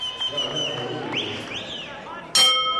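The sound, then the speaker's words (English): A boxing ring bell clangs once, loud, near the end with a ringing metallic tone, after a stretch of voices talking over a noisy crowd at a boxing bout, bout two in ring two. “I know I'm a woman, but when the bell rings, I'm like a monster.”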